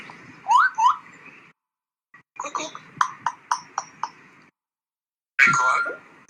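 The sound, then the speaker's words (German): A parrot at Mönchengladbach Tierpark zoo mimics garbled, speech-like words in loud, raspy bursts: two short calls, then a quick run of clipped syllables, and finally a longer screechy utterance after a pause. “Ja, das ist ein Papagei, der komische Wörter von sich gibt.”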